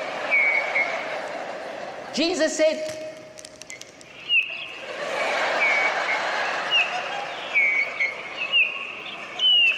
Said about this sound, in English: Listen to the birds.